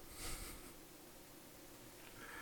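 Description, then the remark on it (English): A faint, steady electronic hum of a computer server running, a low continuous drone with a soft hiss and no voices. “And, okay, the slight hum is my server.”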